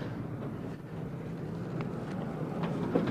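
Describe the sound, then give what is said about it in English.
A model diesel train, the Broadway Limited, is pulled out of a club-built car barn along its track, giving a steady low motor hum and rumble with a few faint clicks, growing slightly louder toward the end. No one speaks. “And it's a little bit rough for me to get my cars out of here, but I got a diesel train that we're gonna pull it out. Here comes the Broadway Limited.”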